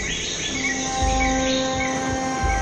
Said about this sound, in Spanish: No ver a nadie, no oír a nadie. Solo el ruido de los pájaros, más intenso que nunca.